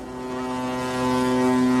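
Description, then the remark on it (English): A ship's horn blasts in one long, steady, deep tone, swelling slightly louder midway and holding without a break, as the boat leaves the harbor on a cruise along a famous Norwegian shipping route. No one speaks. “Watching that boat leave the harbor”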